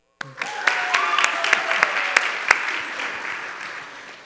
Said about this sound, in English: What we want to do is applaud for them because they're part of the church. So let's welcome them.